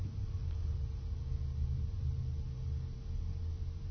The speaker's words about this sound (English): There's just the traffic.